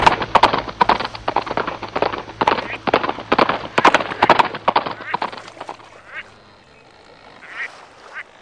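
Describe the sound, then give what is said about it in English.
Rapid, heavy hoofbeats of a galloping horse pound in the dark for several seconds, then stop abruptly, leaving only faint scattered sounds. “You threw me off a galloping horse.”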